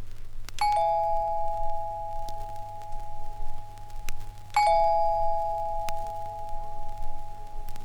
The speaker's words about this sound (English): Ah, there's the bell, honey. Can you get it?